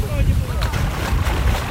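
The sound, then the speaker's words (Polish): Small river waves splash and lap against a boat in a steady wash, with low wind rumble on the microphone and faint voices in the background. “Pierwsza próba, tak, przewiezienie była dość trudna, dlatego teraz właśnie trochę fali na rzece.”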